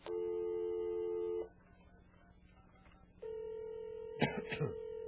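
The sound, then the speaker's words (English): A telephone line sounds a steady electronic dialing tone for over a second, falls quiet briefly, then another sustained tone begins as a phone call is placed, with a short burst of voice-like sound over its end. “Now we're going to make a little phone call and see about this 20 years younger stuff, okay?”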